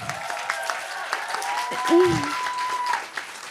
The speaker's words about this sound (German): Ich danke dir sehr und ich bitte um einen großen Applaus